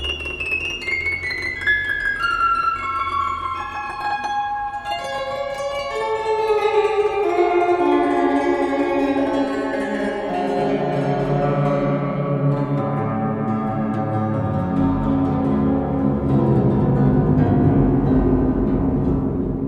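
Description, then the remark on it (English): Tones from walls that Ayres tuned to the frequencies of the planets' orbits, sped up by octave after octave: layered, sustained harmonic tones that glide slowly and steadily downward in pitch, overlapping into a dense, droning chord at an even volume, with no talking. “This is essentially the tones of the orbits of the planets.”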